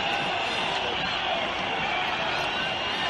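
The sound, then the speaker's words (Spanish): A large crowd boos Spanish Prime Minister Pedro Sánchez at the parade for Spain's National Day (Día de la Hispanidad), a dense and loud wash of many voices that holds without a break for the whole few seconds. “Hemos escuchado otra vez los abucheos a Sánchez.”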